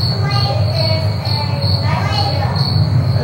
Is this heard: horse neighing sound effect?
no